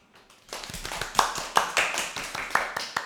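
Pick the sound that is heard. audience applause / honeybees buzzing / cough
audience applause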